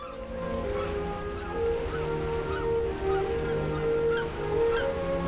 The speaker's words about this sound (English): Seagulls fly over a boat as it speeds across a river.